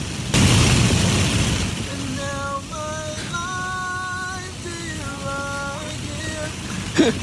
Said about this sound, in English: He was just singing and somehow he flipped his car.